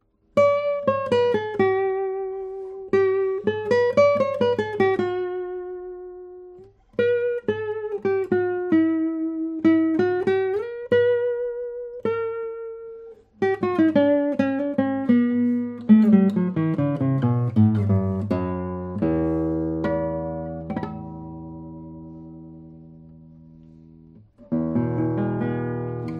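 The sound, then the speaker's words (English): An old acoustic guitar plays alone: picked melodic phrases with ringing, decaying notes, then a descending run into sustained chords, a brief pause, and a final strummed chord. “You can hear and feel that this guitar has some ages on it.”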